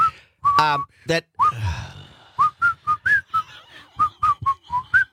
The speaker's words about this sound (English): At the end, I was just going to just say, it's funny you can't sing. But you can whistle. But you can whistle. And then you hit that last note. No, you flattened out big time.